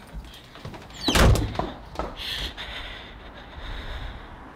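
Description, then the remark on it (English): A single heavy door thuds shut with a brief rattle as a woman gets up and walks out, then a quiet, airy room tone and faint rustling as the sound settles. “She gets up and walks out the door.”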